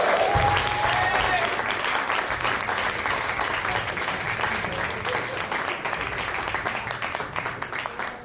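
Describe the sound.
Sustained audience applause, a dense wash of many hands clapping at a steady loud level for several seconds, tapering only slightly toward the end, with a faint murmur of voices mixed in.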